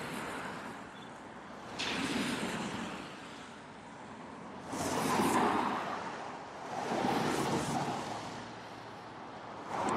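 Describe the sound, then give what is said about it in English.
Steady rushing river water with wind blowing across the microphone, swelling louder in a few broad gusts before easing back to a constant wash. No voices. “And we've made it back to the river.”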